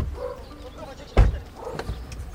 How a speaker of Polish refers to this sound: Przybywa coraz więcej samochodów.